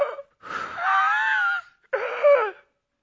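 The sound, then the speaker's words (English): A voice imitates the labored, gasping breathing of a hospital patient sitting upright on a 100% oxygen mask: a short gasp followed by two long, strained, wheezing breaths with a raspy, whining tone, fairly loud with brief pauses between. “He had his bed set straight up, and he was on 100% O2 mask, and he was breathing like this.”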